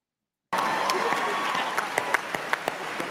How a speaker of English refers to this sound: Like, look at that, that's such a, he doesn't want to clap. Oh my God, imam, stand up for your religion, stand up for your deen. Why are you clapping? You look like you're being pressured into clapping.